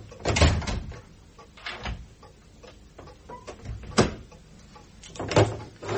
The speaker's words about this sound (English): I shall lock and bolt the door once you're outside.